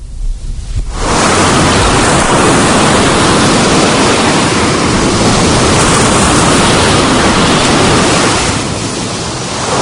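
High ocean surf roars steadily against the shore, a dense wash of crashing waves that swells in after a brief quiet opening and stays loud throughout, with no voices.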